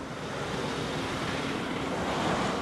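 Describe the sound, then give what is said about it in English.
A conventional taxi cab drives past with a steady, broad whooshing roar of engine and tire noise that swells slightly toward the end; no one speaks. “And here comes a conventional taxi cab going past. Let's hear what that sounds like.”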